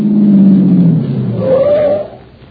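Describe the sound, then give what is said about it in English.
A car registered to Thomas and Humphreys used car sales revs loudly, its engine pitch climbing and then falling away as the vehicle pulls off, with the roar fading quickly at the end. “Ain't a bad car at all.”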